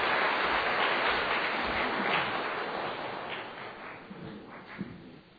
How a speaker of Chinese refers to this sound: 我们还是鼓掌欢迎他啊，荣耀归给神。